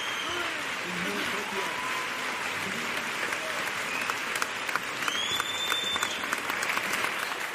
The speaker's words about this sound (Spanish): Espero que te llegue, que retumbe el teatro, este aplauso de España va para Cádiz, su gaditano.